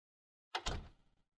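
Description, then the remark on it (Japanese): A door swings shut: a sharp click followed almost immediately by a heavier low thud, with a brief rattling decay. No voices are present. “はあ、ドア閉め忘れてたわ。”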